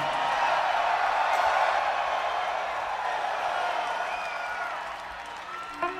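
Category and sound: crowd, crowd screaming and cheering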